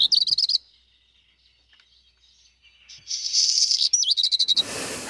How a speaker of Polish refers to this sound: I to jest taki charakterystyczny głosik właśnie kopciuszka. Niech sobie tam nam w tle świergoi.